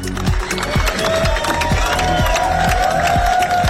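Hundreds of fans clap and cheer steadily as a procession carries a singer's coffin, draped in the Welsh flag, through the Mumbles down Newton Road; the dense applause holds at a loud, even level with a few louder bursts and a faint tone underneath.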